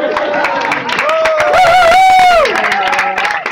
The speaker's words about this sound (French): on peut l'applaudir raisonnablement.